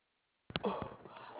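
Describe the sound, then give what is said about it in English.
After a moment of silence, dogs break into a burst of sharp, loud barks that blur together, sounding muffled and thin as if heard over a phone line. “Oh, I apologize for my dogs.”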